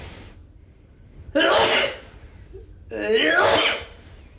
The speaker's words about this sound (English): With that being said, might we point to... hold on, I'm going to sneeze.